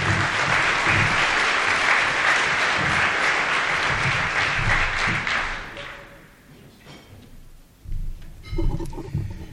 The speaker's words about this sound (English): Freudenberg Filtration Systems, our German company, 50 years ago decided to make this region their home. Even though they're not here, let's give them a big round of applause.